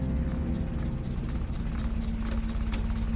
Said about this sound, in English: A motor car jerks and shudders in its transition from the smooth main roads to the winding country lanes of rural Derbyshire.